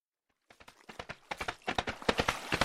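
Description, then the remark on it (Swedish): Rapid hoofbeats of a galloping horse, a quick run of sharp, crisp thuds that starts after a short silence and grows steadily louder. No voices are heard. “Ljud av snabba hovar genom den höga vassen följdes av ett fall och ett förtvivlat skrik.”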